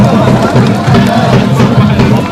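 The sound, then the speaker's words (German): A loud, steady wash of crowd noise from a football match, a derby between two clubs from Doha with about 500 spectators, dense voices blending into continuous babble and chanting with no pauses across the whole stretch. “Das war dann so eine Art Derby zwischen zwei Clubs aus Doha. Und da waren dann insgesamt vielleicht doch so 500 Zuschauer.”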